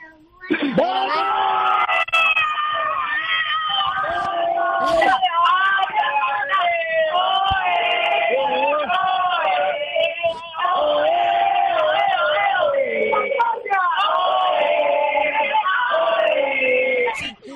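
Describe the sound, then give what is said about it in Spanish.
A small family group at a rural house in Cerezo de Abajo shouts, screams and cheers excitedly all at once, cheering on a girl for a final, loud and continuous for several seconds, with overlapping high-pitched yells as if over a phone line. “el último mensaje que te va a mandar toda tu gente, toda tu familia, quiero yo que ahí en esa casa rural de Cerezo de Abajo gritéis, animéis a la niña para la final, a ver cómo se oye.”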